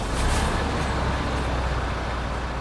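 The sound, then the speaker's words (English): The engine of a huge articulated lorry rumbles steadily as it parks at its base in Llanelli, southwest Wales, a loud, continuous low drone with a hissing wash of noise over it and no speech. “A huge articulated lorry parks up at its base in Llanelli in southwest Wales.”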